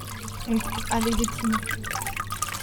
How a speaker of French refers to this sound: Ensuite, je place cette pâte dans une grande cuvette remplie d'eau et je viens plonger dans cette cuvette un outil qu'on appelle la forme.